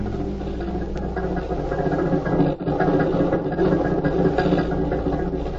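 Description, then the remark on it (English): The engine of a large black sedan, waiting to pick a man up and take him to his hotel, idles with a steady, low rumble and faint mechanical vibration, holding an even level for several seconds apart from a brief dip midway. No one speaks. “A large black sedan waited for him and took him to his hotel.”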